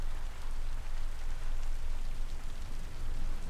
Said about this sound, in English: Storm is not gonna bother you.